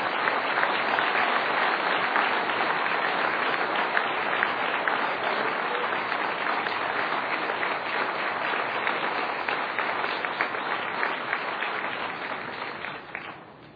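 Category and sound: crowd, audience applause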